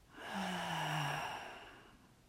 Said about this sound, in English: Again, a full inhale, expanding into your chest and belly. And then exhale out your mouth.